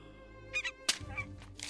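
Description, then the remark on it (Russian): A female goose honks in a few short, nasal bursts with a sharp crack in between, all over a steady tonal background hum. “Отдай гусыню, Шалтай!”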